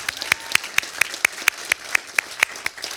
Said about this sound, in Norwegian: Så det er veldig flott å ha dere her. Ja, liten applaus.